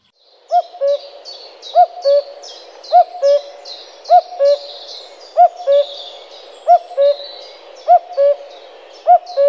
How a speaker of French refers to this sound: Et pour terminer, le coucou gris.